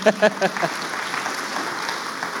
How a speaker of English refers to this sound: yeah, we can clap. That's very good.